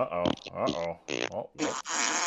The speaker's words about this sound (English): Fart.